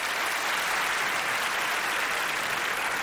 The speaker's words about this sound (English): Let me get a sense of you guys as an audience. Clap if you're married right now. Clap if you're married.